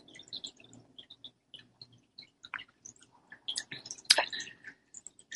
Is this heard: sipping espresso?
yes